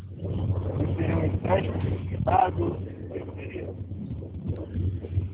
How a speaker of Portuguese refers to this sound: É que tá muito vento, eu não tô entendendo.